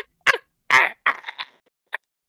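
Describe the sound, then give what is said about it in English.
A dog barks outside in a handful of short, sharp bursts at uneven intervals, the last one quicker and fainter, with no voices in between. “Nevertheless, there sure is a dog there is a ack dog out there somewhere.”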